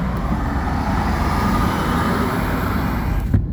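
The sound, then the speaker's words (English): Steady, dense road rumble heard from inside a moving vehicle on a highway with traffic backed up across seven lanes, a constant low roar of engine and tire noise with a brief thump near the end. “They gotta get there now when all the traffic is backed up on 6 lanes.”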